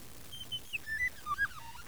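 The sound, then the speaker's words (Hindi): A handful of short, high-pitched bird chirps in quick, uneven succession, fairly soft, with no voices. “सुंदर फूलन खा देखा और चिरंजन की आवाज सुना”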